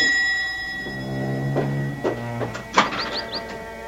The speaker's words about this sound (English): And then the bell once more breaks out into an impatient clamor.